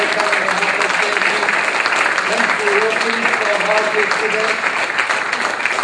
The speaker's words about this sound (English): I want you to give them a big round of applause and to say thank you.